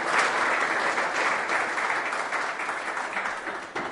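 A crowd claps steadily for several seconds, a dense, even patter of many hands that stays loud throughout and thins slightly toward the end, with no voices over it, welcoming a visiting woman guest at an evening gathering in Těšín Silesia.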